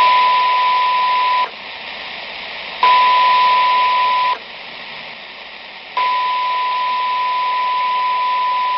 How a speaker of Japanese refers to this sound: 信号オンオフ。